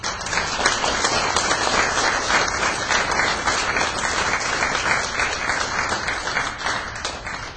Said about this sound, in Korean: 우리 박수로 환영합시다.